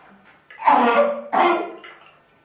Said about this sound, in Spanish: ¿Sabes que a pesar de toda la tos y que ha tenido incluso alguna arcada como ha vomitado?